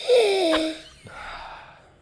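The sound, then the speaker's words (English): A loud sniff through the nose at a glass of wine, with a squeaky, whistling edge, followed by a softer, breathy second inhale, with no talking. “Good old sniff, right? Can you do that again? How does the sniff go?”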